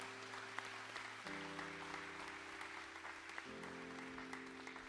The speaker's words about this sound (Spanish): Y de parte de la Iglesia Verdad en Amor, un abrazo muy grande y muchas gracias a todos los voluntarios. Amén. Y les vamos a dar un fuerte, fuerte aplauso en esta mañana a todos.